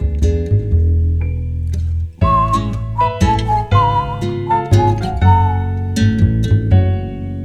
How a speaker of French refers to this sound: Ainsi siffle, siffle ce bon ….